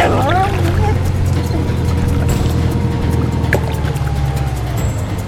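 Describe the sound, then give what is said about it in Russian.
Rescuers' motorboat engines drone steadily and loudly over rushing, splashing floodwater in a flooded village, with a brief faint voice near the start. “Вот и спасатели на катерах.”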